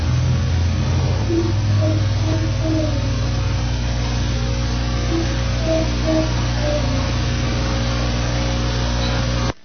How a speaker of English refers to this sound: I can hear a semi-truck drive by. And the truck goes by. Kind of ruins the whole thing, but...